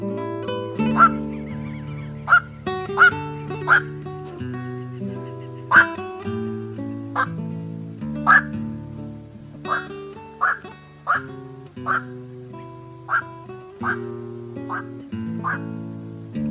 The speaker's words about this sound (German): Das war der Nachtreiher.